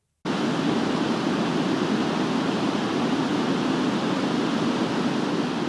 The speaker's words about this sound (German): Das sogenannte weiße Rauschen oder auch White Noise, ein leises Rauschen im Hintergrund.